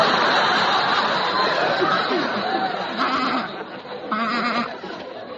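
A sheep bleats twice, two wavering cries about a second apart, rising over a dense crowd-like murmur and scattered chatter that fill the whole scene.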